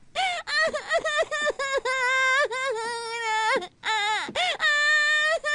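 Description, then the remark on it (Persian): A child wails and sobs loudly in high-pitched bursts, with long drawn-out cries broken by short gasping breaths, continuing through the whole stretch. “نه بیا گریه نکن، اینو بگیر.”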